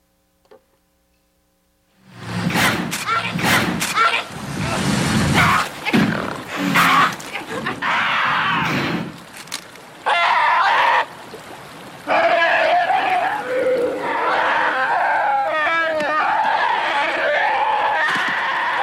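A loud crowd roars and yells in a dense, sustained wall of voices that bursts in after a moment of silence, swelling and dipping briefly before surging again.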